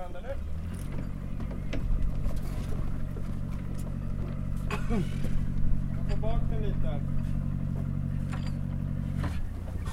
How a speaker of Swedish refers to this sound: Båten glider majestätiskt ner i vattnet och där lossar man på lämmarna och där flyter hon. En stor Grand Banks. Nu drar han igång motorn. Slamkryparen kör sakta upp ur vattnet.